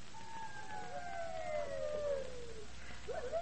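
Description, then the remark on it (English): Several wolves coming into a village at night howl together in long, sliding wails that overlap and slowly fall in pitch, over a steady background hiss, with a new rising howl starting at the end. “Listen. The wolves. They're coming into the village tonight.”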